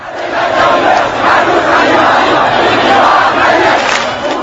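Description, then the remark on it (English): A large crowd at a rally chants slogans against President Ahmadinejad in unison, a loud, dense roar of many voices rising and falling in rhythmic waves, sustained throughout without pause. “Many in the crowd chanted slogans”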